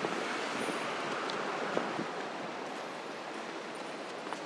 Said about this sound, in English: Sounds like traffic is moving forward, Vance, north on York Road, but not south, so that confirms my plan.